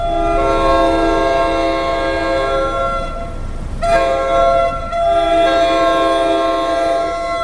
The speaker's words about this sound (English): At the Ramsey NJT station.